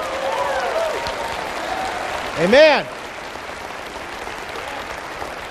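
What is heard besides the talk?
audience applause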